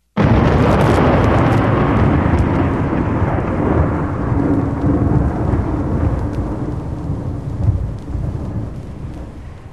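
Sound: thunder rumbling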